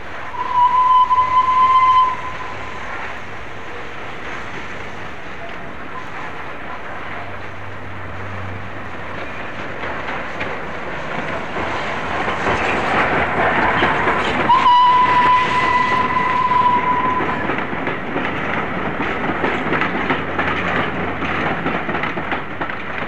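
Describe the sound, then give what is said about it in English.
The steam locomotive Flying Scotsman pulls into Marylebone station on 18 April 1964, hauling a train from Manchester, with a steady rumbling hiss, sounding two shrill whistle blasts, one at the start and another midway, with no one speaking. “Flying Scotsman arriving at Marylebone on the 18th of April 1964.”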